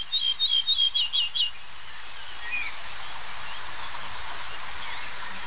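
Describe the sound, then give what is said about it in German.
A nightingale gives a quick run of about six creaking, wooden rattling notes, then one faint call, over a steady broad hiss of background noise. “Das Knarzen der Nachtigall haben wir noch gehört. Das hölzerne Schnarren.”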